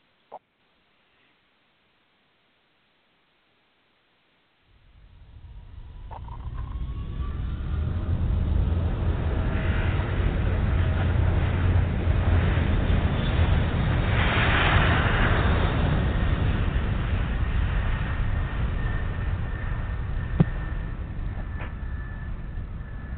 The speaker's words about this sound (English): Well, it takes just a couple of seconds to spool up those engines, but the roar of the jet engines for takeoff is sure a good sound.